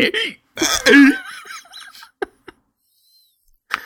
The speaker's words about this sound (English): Yeah, I still have some nasty hiccups.